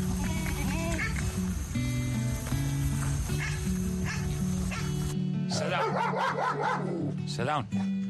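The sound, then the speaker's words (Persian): A dog barks and yips in a quick run of sharp barks toward the end, following a stretch of dense, steady background noise with voices mixed in. “سگای خودتا ماشاءالله وفادار وفادار است.”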